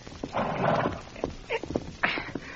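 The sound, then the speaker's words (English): Horse hooves clip-clop in an uneven, moving rhythm, mixed with a brief rough animal noise near the start, moderately loud with no talking, as a rider leaves on horseback. “All right, kid, get on your horse and get going.”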